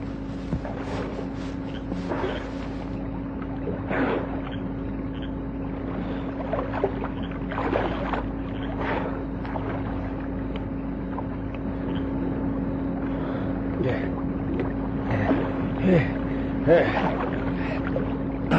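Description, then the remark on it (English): Water sloshes and splashes in irregular bursts as someone treads water and swims a little in a pool, over a steady low droning hum and faint background rumble. “treads water, swims a little, shivers a lot.”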